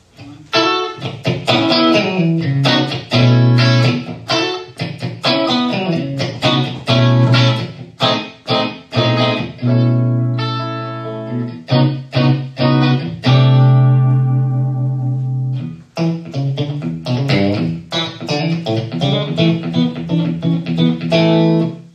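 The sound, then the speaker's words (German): An electric guitar, played through delay and reverb effects, plays a steady run of loud notes and chords, each one smeared by delay repeats and a reverb tail, with a slower held passage midway and no voices. “Auch da versuche ich nicht ständig neue Effekte, sondern ich suche mir ein schönes Delay. Ich suche mir irgendwie ein bisschen Hall, weil ganz trocken hat auch seinen Charme.”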